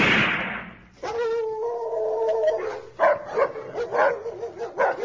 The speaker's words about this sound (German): Überall im Dorf bellen die Hunde und ihre Angst nimmt zu.